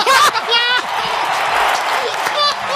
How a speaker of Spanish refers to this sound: Y ojo, vamos a ver, llega ahora mismo Pablo Casado, vamos a escuchar el ambiente. Ahí está esa gran ovación para.